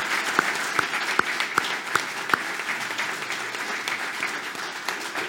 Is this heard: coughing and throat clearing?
no